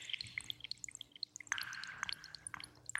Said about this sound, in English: I created the drops of water on the DX7. Just by playing around with the waveforms and everything until I got exactly what I wanted.